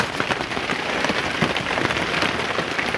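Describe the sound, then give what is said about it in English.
Steady rain patters without a break, with scattered sharper drips tapping through the dense hiss of water from a leaking roof. No one speaks. “So, not as much dripping in this particular moment as there was a moment ago, but more heavy rain may be coming.”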